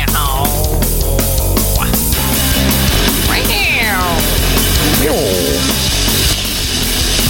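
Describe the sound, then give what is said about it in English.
A cat meows a couple of times, with rising and falling cries standing out against a loud, busy background of noise that runs throughout. “Meow, meow, meow, meow, meow.”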